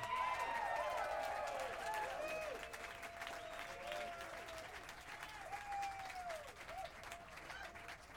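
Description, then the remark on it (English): An audience gives a warm round of applause for Alfonso Johnson, clapping steadily for about eight seconds, a dense crackling wash of applause with bright whistles and cheers rising over it, loud at first and easing off slightly toward the end. “A warm round of applause, if there is any other kind, for Alfonso Johnson.”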